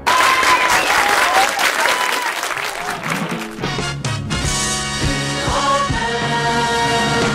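Loud, dense applause with cheering from a Parisian audience for about three seconds, then music with steady harmonic tones and rhythmic beats comes in as the clapping continues underneath.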